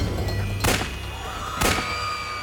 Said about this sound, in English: A loud gunshot rang out, followed by another.